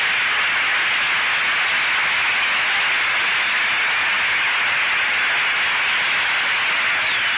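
A baseball crowd applauds as Pearson comes up to bat, in a steady, dense wash of clapping that holds at an even, loud level for several seconds, with no voices over it and a hissy, band-limited tone.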